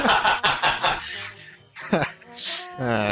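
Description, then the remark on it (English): A person voices a string of harsh, squawking bird-like cries, choppy and nasal, with a couple of shrill drawn-out screeches near the end, fairly loud; an impression of the bird voice associated with Gilbert Gottfried. “Do the bird.”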